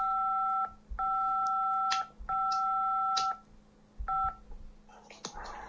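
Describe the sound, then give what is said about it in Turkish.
A telephone line sounds a series of steady electronic dialing and ringing tones, several beeps of uneven length separated by short gaps, clear with a faint background hiss. “Ne yapıyorsun güzelim, telefonun meşgul çalıyor, açmadın.”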